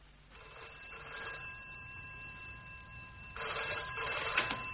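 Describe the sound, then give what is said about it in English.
A telephone rings twice, each burst a bright, buzzy trill lasting about a second with a pause of roughly two seconds between, as if heard down the line while waiting for an answer. “Can I use the phone?”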